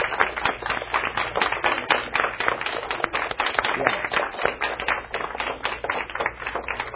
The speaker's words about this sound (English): I'd like the youth leaders to stand up, if you would, for just a second. And these are really special people to me. Oh, yeah, let's clap.